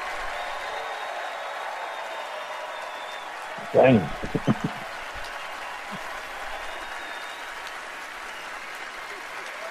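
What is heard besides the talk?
audience applause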